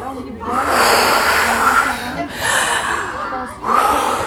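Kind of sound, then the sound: human body sound, forceful breathing exercise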